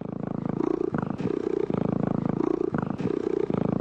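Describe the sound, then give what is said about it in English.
A domestic cat purrs steadily, a low rumbling drone that swells and eases in a slow rhythm of inhales and exhales, with no other sounds around it. “It's just the sound of my particular cat, named Bluto, purring.”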